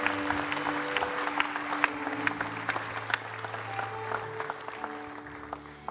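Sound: audience applauding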